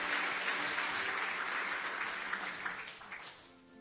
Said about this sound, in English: Give the Lord one more hand clap of praise tonight.